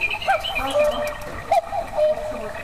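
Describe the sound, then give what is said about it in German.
A cuckoo clock in Germany's largest clock store calls its two-note cuckoo twice, mid-pitched and fairly clear, with fainter high chirping whistles mixed in and no talking. “Der Kuckuck hat das gelernt.”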